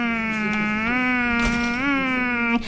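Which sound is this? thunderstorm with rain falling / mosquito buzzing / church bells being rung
mosquito buzzing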